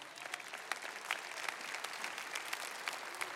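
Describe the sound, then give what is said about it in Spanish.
Steady applause from an audience of women at a church sermon, a dense wash of many hands clapping with sharper individual claps popping out, fairly even in loudness throughout and no voices. “Y todas aplaudieron, son mujeres.”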